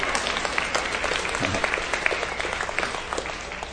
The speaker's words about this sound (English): That would be a good time to say amen. Amen. That'd be a good time to clap more than you did for the Bears jersey.